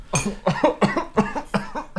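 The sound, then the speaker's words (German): A rapid coughing fit of about six harsh, closely spaced coughs in quick succession, loud. “Nicht husten.”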